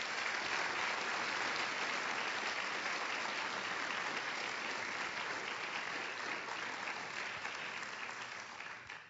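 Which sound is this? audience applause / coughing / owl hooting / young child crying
audience applause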